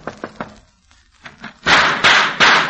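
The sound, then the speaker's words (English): Three quick, sharp knocks on the door of a house with a light in the window, a short pause and a couple of soft taps, then three louder, heavier bangs with a noisy, booming thud. No one speaks. “I shall knock on the door.”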